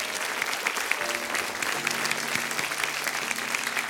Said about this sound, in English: Go ahead and give God a hand clap of praise.